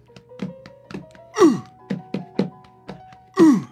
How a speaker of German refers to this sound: Jetzt spüre ich langsam was. Ja, ich auch, aber es vor allen Dingen die Faust, die auf meine Brust klopft.